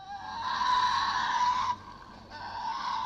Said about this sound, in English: This is the screech that gives the Tasmanian devils their name. Can you imagine being in this dense forest in 1880 and hearing that noise?